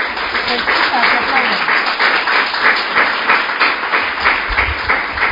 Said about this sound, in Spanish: Se les ha escuchado que aplaudían, pero no se han visto las caras de felicidad que tenían.